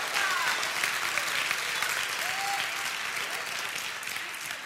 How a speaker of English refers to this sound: Come on, get serious about this. Take 30 seconds, give him a hand clap. Thank you, Father God. Thank you, Father God.